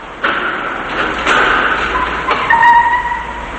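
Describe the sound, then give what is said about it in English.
A black Mercedes rolls into a parking garage over a steady wash of engine and road noise, with a dull thump early on and thin squealing tones near the end as it comes to a stop. “The car stops.”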